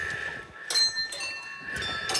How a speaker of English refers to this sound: And whenever they go a full revolution, you hear the bell ring.